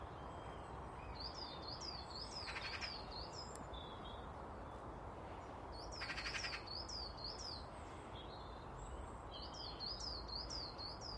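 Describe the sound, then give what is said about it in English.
A male (cock) blackbird sings in short bursts of quick, repeated high chirping notes, three phrases with pauses between, over a steady, loud background hiss. “There's a cock blackbird down in front of me.”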